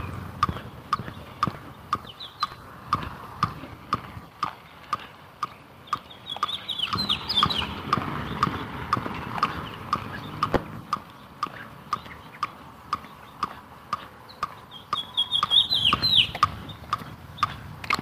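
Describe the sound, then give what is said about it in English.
Robins chirp busily, short sharp calls repeating in a steady, almost metronomic rhythm, with two brighter bursts of twittering partway through and near the end. No one speaks. “Some robins chirping up a storm.”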